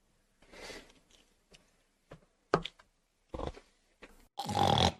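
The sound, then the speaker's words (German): Irregular snuffling grunts and crunchy chewing sounds from an animal eating bars, in short bursts with pauses, ending in a louder, longer grunt. “Mit dem Grunzen.”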